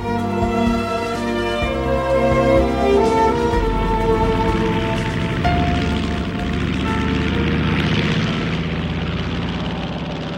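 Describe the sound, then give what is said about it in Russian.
Airplanes roar overhead with a loud, steady engine drone that hums with layered tones and holds continuous for the whole stretch, with no voices. “На аэродроме каждый день проводились уроки, на которых самолеты учились делать в небе сложные фигуры.”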